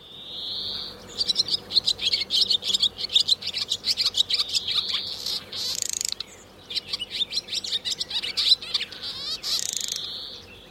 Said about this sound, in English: And I started playing the sound of the bird over and over again to her as I was squeezing the bird model. And her eyes just absolutely snapped open after a moment. And she looked up at me and she just smiled like she recognized that sound.